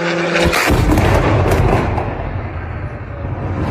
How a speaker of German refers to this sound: Das, was wir gerade hören, das ist eine Shahid-Drohne der Russen, aufgenommen mit einem Smartphone in Kiew eben am Pfingstmontag. Und so ging es eigentlich die ganze Nacht.